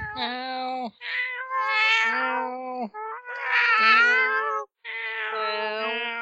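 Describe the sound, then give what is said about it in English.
A person imitates a cat with four long, drawn-out, mournful meows in a row, fairly loud, each wavering in pitch, with only brief gaps between them. “your cat noises are the saddest cat noises.”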